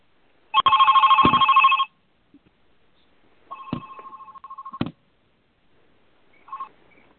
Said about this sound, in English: Okay, we're back. I just didn't want to talk over the ringing.